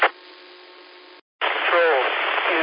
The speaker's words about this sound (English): I had a lot of static in that signal.